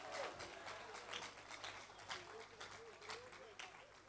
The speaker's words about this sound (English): Let's give the Lord a clap offering. Hallelujah.